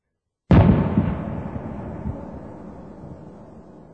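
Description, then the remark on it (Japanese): A single loud firework bursts after a brief silence as the fireworks end, its deep boom rolling out into a long, fading rumble that lingers for several seconds with no voices. “花火が終わる。”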